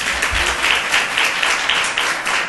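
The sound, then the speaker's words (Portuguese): An audience applauds for Professor Martinha Claretti, many hands clapping at once in a dense, even patter that holds at a fairly loud level throughout. “Por favor, professora Martinha Claretti, uma salva de palmas a ela.”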